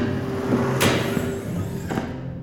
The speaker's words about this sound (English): Careful. That's an expensive chair you just hurled into the wall.